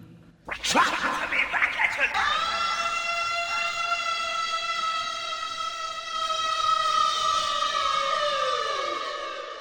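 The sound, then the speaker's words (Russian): A sudden rough burst gives way to a long, piercing, eerie scream in a night forest that holds a steady high pitch for several seconds before sliding slightly downward, loud. “Тишину ночного леса прорезал жуткий крик.”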